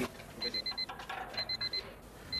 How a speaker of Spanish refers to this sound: Entonces vamos a escuchar un ruido de despertador. Un ruido de despertador.